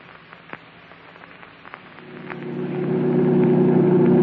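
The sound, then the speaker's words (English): After a couple of seconds of faint crackle and scattered clicks, a car engine roars up and holds a loud, steady drone as the car speeds along at 90 with the accelerator only halfway to the floor. “This rocket could lose any motorcycle or any cop's car.”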